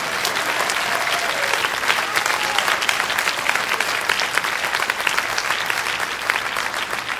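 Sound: audience applauding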